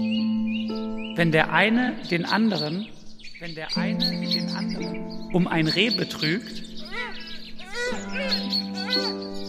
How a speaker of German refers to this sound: Können wir vielleicht darunter so Vogelgeräusche und so ein bisschen so schön?